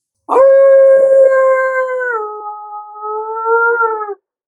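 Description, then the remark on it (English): A person imitates a coyote howl: one loud, sustained high-pitched wail lasting about four seconds, stepping down slightly in pitch midway, then wavering before it cuts off. “But a coyote sound is yay-yay-yee! That high pitch, yay-yay-yee, going straight up.”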